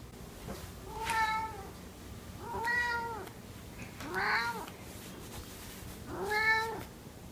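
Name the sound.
cat meowing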